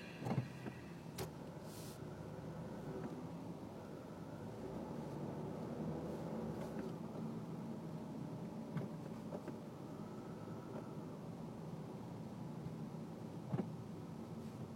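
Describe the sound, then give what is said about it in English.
Steady low rumble of nearby car traffic fills the whole stretch, with occasional brief clicks and swells as vehicles pass; no one speaks. “I guess I'm just gonna have to turn on some music because there are too many cars here.”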